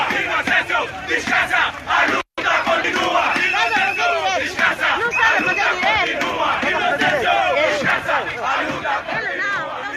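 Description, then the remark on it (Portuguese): A funeral procession of about 1,000 protesters in Luanda, Angola, heading to Mulemba cemetery in Cazenga, chants slogans such as "the struggle continues" and demands justice for a student's death, in a loud, steady roar of many voices, broken only by a brief cut of silence early on. “Inocêncio descansa, a luta continua, o povo não tem medo ou ainda MPLA é que o matou, gritavam os manifestantes a caminho do cemitério da Mulemba, no município do Kazenga, em Luanda.”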